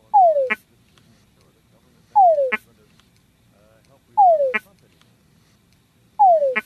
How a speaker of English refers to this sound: So we just heard the sound of the Tungura frog, and you were kind of explaining the different sounds that the male makes. And if you see in the video, you see that the female is slowly approaching, almost with each croak.